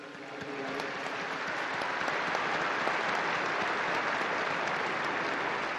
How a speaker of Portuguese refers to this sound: Um aplauso ao novo Beato.